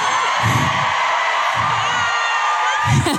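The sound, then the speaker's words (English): Loud, sustained excited screaming fills the whole stretch, shrill, with three dull low thumps spaced roughly a second apart underneath. “Can I scream?”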